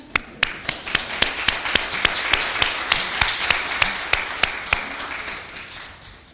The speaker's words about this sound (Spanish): Podéis aplaudir.